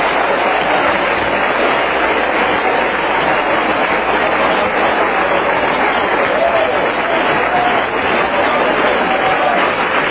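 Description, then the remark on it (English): An audience claps their hands to the Lord before singing, steadily for about ten seconds, a dense, continuous wash of many hands clapping at once, loud and sustained with a faint murmur of voices underneath. “Clap your hands to the Lord before you sing it.”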